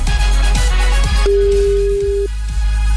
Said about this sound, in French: Attention, ça sonne quelque part, c'est peut-être votre téléphone.